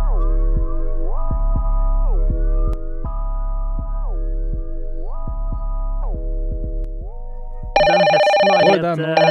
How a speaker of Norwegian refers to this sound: Ja, nå må du ta telefonen her, gutt. Det ringer, ja.